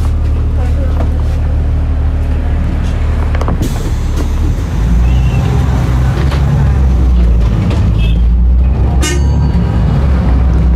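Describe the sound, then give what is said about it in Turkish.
A bus rumbles along a busy coastal road in the morning, its engine drone steady and heavy, with passing traffic and a brief horn-like toot near the end; a voice talks faintly underneath. “Bu yol aşırı bir trafik olabilen bir yol, sahil yolu.”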